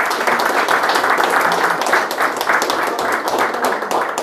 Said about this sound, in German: Ja, herzlichen Applaus dir